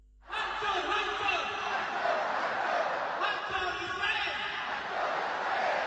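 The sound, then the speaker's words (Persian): Thousands of Malaysian men and women in Kuala Lumpur roar and chant the protest slogans 'Death to Israel', 'Greetings to Gaza' and 'Long live independent Palestine' in a dense, continuous wall of voices that starts abruptly and holds steady and loud throughout, with rhythmic surges in the shouting. “فریاد هزاران مرد و زن مالزیایی با شعارهای مرگ بر اسرائیل، درود بر غزه و زنده باد فلسطین مستقل در پایتخت این کشور تنین انداز شد.”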